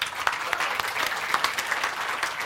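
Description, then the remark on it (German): A crowd claps steadily in sustained applause for a 422-point score, a dense wash of many hands with small sharp peaks, moderately loud, with no voices over it. “Einmal Applaus.”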